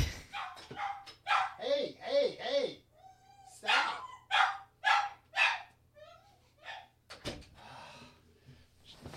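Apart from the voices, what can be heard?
dog barking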